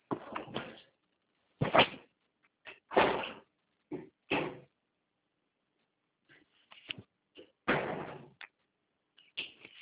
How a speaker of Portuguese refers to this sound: Fecha a porta.